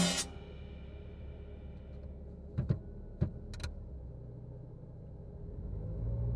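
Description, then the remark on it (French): A car engine rumbles steadily, with a few sharp clicks partway through, then the low drone swells as the car pulls away, setting off for a high school. No one speaks. “Je m'installe, on démarre, c'est parti pour le lycée.”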